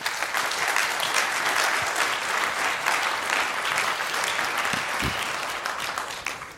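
An audience applauds steadily for several seconds to welcome a speaker presenting a talk on hacking the Raspberry Pi RP2350 microcontroller, a dense, sustained wash of many hands clapping at a constant loudness, with no voices audible over it.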